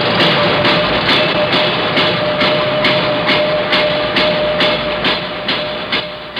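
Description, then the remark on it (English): Construction work on the new Coliseum at Columbus Circle, three blocks away: a loud, continuous mechanical roar with regular clanking thumps about three times a second and a steady whine running underneath, with no voices. “Thursday, construction begins on the new Coliseum at Columbus Circle, three blocks away.”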